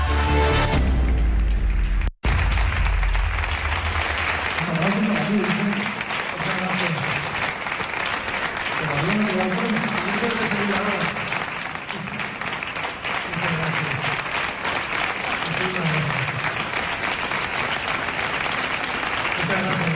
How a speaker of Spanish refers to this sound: Aplausos para ti